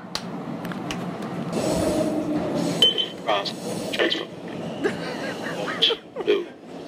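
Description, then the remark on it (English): Rumbling interior noise of a moving Orange Line metro train, with metallic clinks and squeals, steady low rattle, and muffled voices and brief announcements in the background. “That's real audio from the because Orange I Line.”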